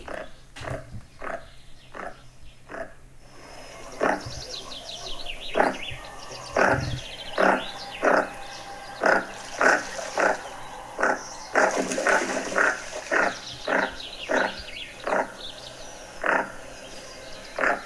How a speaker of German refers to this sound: Hier kommt der Goose-Sender, heißt der im Englischen übrigens, der Vogel. Goose-Sender.